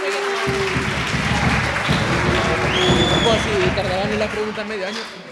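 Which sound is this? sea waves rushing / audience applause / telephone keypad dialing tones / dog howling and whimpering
audience applause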